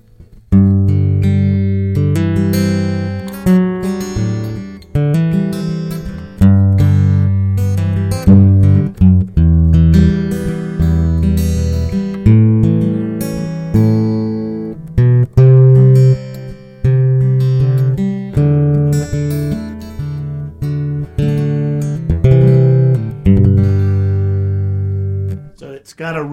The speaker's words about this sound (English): And you hear that classical guitar, that's an Ovation classical with the old style pickup. So you can hear a little bit what it sounds like.